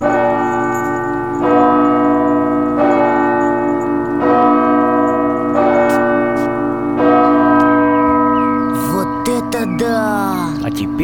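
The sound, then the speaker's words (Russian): Two large bass church bells, struck by a bell-ringer pressing two foot pedals with the right foot, toll in a slow, steady rhythm, each deep stroke ringing on and overlapping the next, with brighter, quicker chimes breaking in near the end. “На них, на эти педали, звонарь нажимает правой ногой.”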